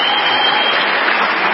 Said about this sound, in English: that's the biggest applause he's ever gotten before a Democratic audience.